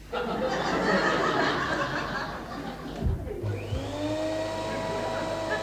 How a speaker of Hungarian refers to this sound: Oszkár a porszívóval kakastarészerűen felborzolja Félix haját.